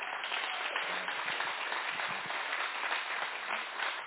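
An audience claps for a team in steady, continuous applause, a dense crackling wash of many claps holding at an even loudness for about four seconds with no voices on top.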